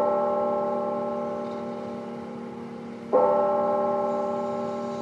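Church bells ring late in the afternoon in Chattanooga, Tennessee, where several churches and chapels chimed five times. A deep church bell tolls slowly, its rich ringing hum fading before a second strong strike rings out and lingers. No voices, just the resonant bell.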